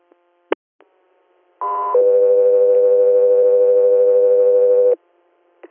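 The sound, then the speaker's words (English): Radio dispatch alert tones ahead of a dispatch to an air unit: a brief higher pitched tone jumps to a long, steady lower tone held for about three seconds, loud and clean, preceded by a couple of sharp clicks. “Scott 3 Air, standby for tones.”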